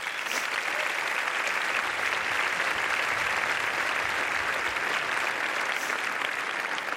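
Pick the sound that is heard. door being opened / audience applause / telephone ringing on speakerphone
audience applause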